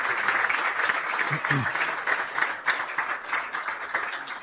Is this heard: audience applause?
yes